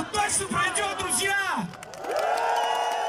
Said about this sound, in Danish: Og så der var en eller anden klar forløsning i, at der faktisk kom så mange mennesker og råbte deres mening mod Putin på den her måde.